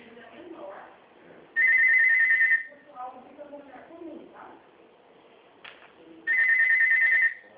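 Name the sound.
telephone ringing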